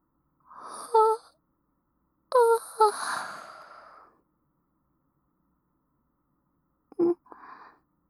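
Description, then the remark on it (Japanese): A breathy yawn: a short voiced breath, then a longer drawn-out vocal yawn trailing into a soft exhale, with a faint brief breath a few seconds later. “あくび。”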